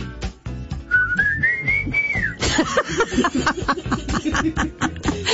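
A person whistles a short tune, one clear rising note held for about a second, close and fairly loud, before the whistle gives way to busier, noisy sounds and chuckling.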